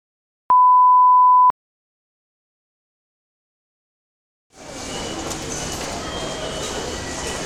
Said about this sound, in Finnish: Tänään olemme Helsingin rautatieasemalla, jossa maata pitkin matkustavat ryhmä on pian nousemassa junaan.